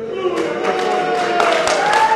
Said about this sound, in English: The audience erupts in a mixture of boos and cheers.